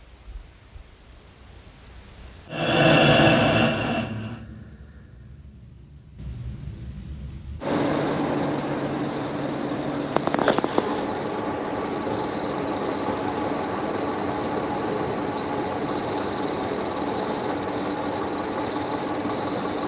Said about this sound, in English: and last winter it started squealing quite a bit. I just ignored it for the winter, and it was fine after it started warming up because of the properties of the metals. They shrink in the cold, so it causes a squeaky bearing. Something like this.